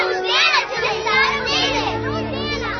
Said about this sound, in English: But when the chief priests and scribes saw the wonderful things that he did, and the children crying out in the temple, they were indignant.